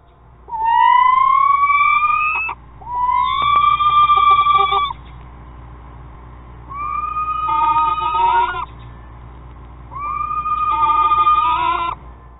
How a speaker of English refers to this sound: A small, nocturnal, predatory bird known as the screech owl. Now, these efficient little killers got their nickname due to the screeching sounds that they emit. Sounds similar to these, courtesy of the Jollyville Screech Owl House over at YouTube.